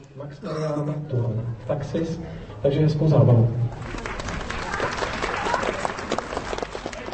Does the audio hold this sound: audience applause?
yes